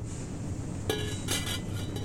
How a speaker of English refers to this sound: As dinner wraps up, and he does all of the dishes because he insists,